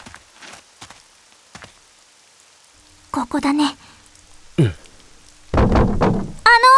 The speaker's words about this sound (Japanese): また降り出したね、雨。